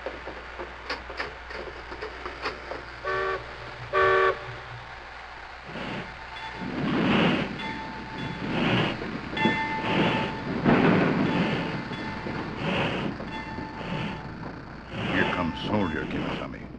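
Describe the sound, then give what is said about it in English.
A steam train's whistle sounds in short blasts at the docks, then heavy rhythmic chuffing builds as the locomotive pulls away, loud with a hissing, rumbling background. “Well, there's the highball. Let's go”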